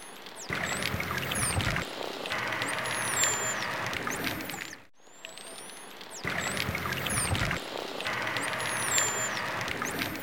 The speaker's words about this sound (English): Well, when you reach my age, it gets a little bit difficult to hear some of the dolphin whistles at full speed because they are quite high pitched. Yes. So you slow them down, then it becomes much more clear.